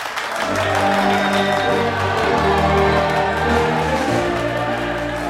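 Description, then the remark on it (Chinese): A burst of applause and cheering fills a main control room, steady and loud for several seconds, with sustained low musical tones swelling underneath, after a satellite ground-docking test is announced a complete success. “瞬间，掌声和欢呼声席卷了总控机房。”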